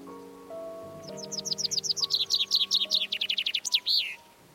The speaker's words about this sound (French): Bien que les oiseaux se soient exprimés vocalement très longtemps avant qu'il y ait eu des oreilles humaines pour les entendre, dit-il, il est évident que leur ancien chant ne devait ressembler que de très loin à la musique actuelle des oiseaux.